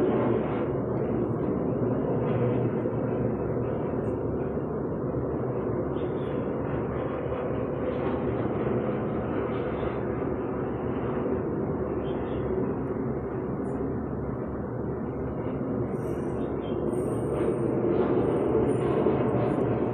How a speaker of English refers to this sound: So before that, let's take a short break here, because there's a plane just by this while we're doing this podcast.